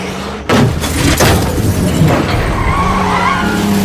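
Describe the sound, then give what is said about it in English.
A Volvo car's engine roars as it accelerates hard, tires skidding and squealing loudly after a sudden burst, with heavy, continuous road noise and no talking; the car follows in the wake of a truck. “Jerry guns the Volvo and follows in the truck's wake.”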